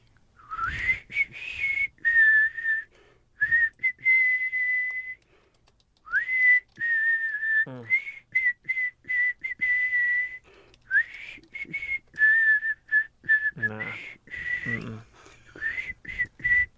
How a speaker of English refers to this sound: I'm going to try and whistle. I can't really whistle well, but it is one of the bands or artists from Night 2, and you need to come up with the artist and the song title.